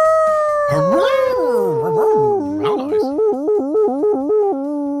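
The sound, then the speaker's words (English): A person imitates a dog howling: one long, loud wail that slides downward, then breaks into a quick string of rhythmic, warbling yips before trailing off. “That was a proper dog howl, man.”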